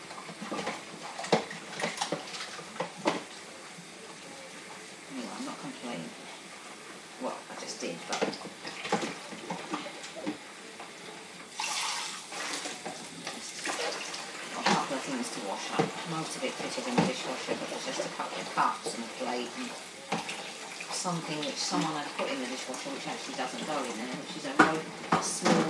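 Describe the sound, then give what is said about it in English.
Dishes being washed up in a sink before cooking dinner: steady clatter of plates and cutlery knocking together, with bursts of running water from a tap and a faint voice now and then. “I'm just going to get this washing up done and then I'm going to get the dinner on.”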